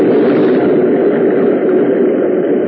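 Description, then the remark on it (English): A loud, steady roar of water as a big freak wave crashes over a ship's port bow in a heavy swell, a dense rushing wash that holds its strength throughout, with no voices. “Why, there's not another wave that size in sight.”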